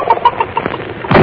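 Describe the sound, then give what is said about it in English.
A few short, soft clucks from a hen, then one loud, sharp door slam near the end that cuts off abruptly. No one speaks. “I slammed the door.”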